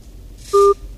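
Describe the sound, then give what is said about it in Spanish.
A single short electronic beep from a WhatsApp call connecting to the municipality of Miraflores, where the signal is weak, steady and clear, rising briefly above a faint low background hum before cutting off. “Es que la llamada es por WhatsApp porque allí en el municipio de Miraflores es un poco compleja la señal y es justamente con el que vamos a hablar.”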